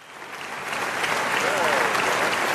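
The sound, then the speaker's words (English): An audience claps steadily, a dense wash of many hands that starts a little softer and swells into fuller, sustained applause throughout. “All right, it's a little better of applause.”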